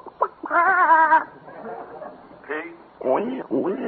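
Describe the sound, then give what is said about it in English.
A voice imitates chickens clucking: a sustained, wavering squawk followed by several shorter, choppy clucks in quick bursts, fairly loud. “Have a few chickens.”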